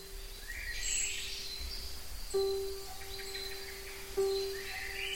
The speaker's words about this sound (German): Spiel mit folgender Begleitung. Wälder von 5 Uhr bis 8 Uhr morgens im Sommer. Oder mit der Begleitung der Vögel, die im Morgengrauen singen.